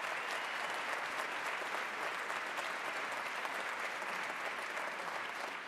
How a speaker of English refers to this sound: today we are honored to have with us Manuel Hart, the chair of the Ute Mountain Ute Tribe. Now, only about, well, she could give Manuel applause.